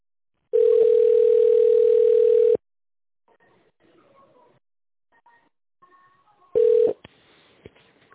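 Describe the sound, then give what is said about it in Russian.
A steady phone tone hums for about two seconds, then faint clicks and line noise, then one short touch-tone beep as a key is pressed to dial an extension number in tone mode. No one speaks. “Пожалуйста, наберите в тоновом режиме добавочный номер или дождитесь ответа оператора.”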